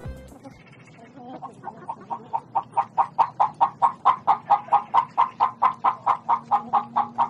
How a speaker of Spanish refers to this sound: Abuelita, ¿qué es eso? Es una gallina cantando. ¡Quiero verla, abuelita! Te la mostraré, mijito, de lejos, porque te puede picar. ¿Por qué? Porque está empollando.